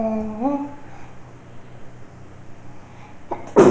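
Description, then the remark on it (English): A short vocal sound near the start, then a quiet pause before a sudden, loud, breathy burst of a deliberately faked sneeze right at the end. “Gesundheit.”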